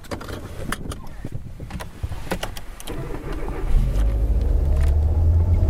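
A car starts up and pulls away to drive back to Bremen at 11:45: a few sharp clicks and knocks come first, then a low engine rumble swells and holds steady as the vehicle gets moving.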